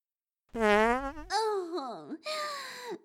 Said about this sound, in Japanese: また出てしまいましたわ、くっさいくっさーいおなら。私、実は腸がつくほどの包皮体質なのですわ。一度屁をこき出すと、出しても出しても全く止まりませんの。